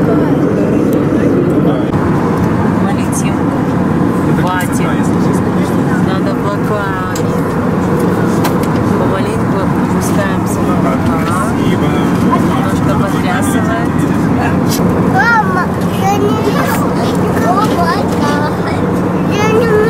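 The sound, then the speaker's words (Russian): A steady, loud airplane cabin drone hums evenly throughout a flight over mountains with towns below, a dense engine roar with a low tonal hum, while indistinct voices murmur faintly beneath it. “Летим над горами. Там какие-то города внизу.”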